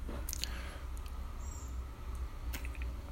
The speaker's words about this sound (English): A little coffee sip there and let's dive in.